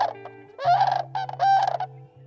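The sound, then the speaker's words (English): A sandhill crane, a tall, gray-bodied bird, gives a rattling, bugling call in two loud bursts, harsh and rolling with rich overtones, over a steady low hum, with no talking. “the primary reason was to protect habitat for the sandhill crane”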